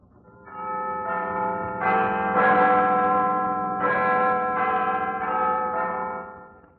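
signal or alarm, clock tower bell chiming

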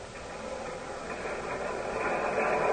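vehicle, elevated train passing

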